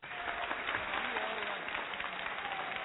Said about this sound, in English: Yeah, clap for yourselves, fellas. Pat yourselves on the back.